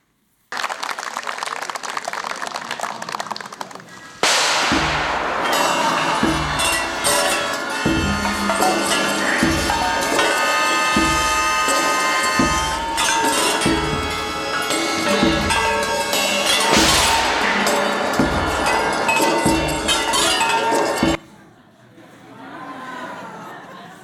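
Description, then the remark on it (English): After a few seconds of crowd chatter, a band in Thailand plays percussion instruments: steady, evenly spaced deep drum beats under sustained, ringing metallic tones like gongs or bells, loud throughout, then cutting off. “What you saw here was actually the ….”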